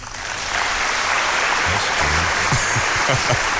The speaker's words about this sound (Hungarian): a tömeg taps.